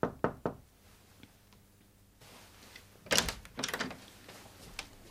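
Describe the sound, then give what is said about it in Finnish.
Three sharp, distinct knocks on a door in London, followed by a quiet pause and then some rustling, shuffling noises as if the door is being opened. “Hän yksinkertaisesti matkusti Lontooseen ja koputti sopivan näköiselle ovelle.”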